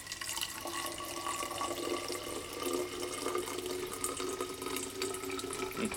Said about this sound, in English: Oh, come, man. Pour a decent one.